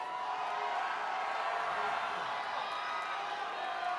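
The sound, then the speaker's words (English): A live concert audience yells and cheers for old songs in a steady, dense roar that fills the whole stretch, with scattered whoops and a bit of clapping mixed into the crowd noise. “Oh, now's the time to yell for old songs, that's what it is.”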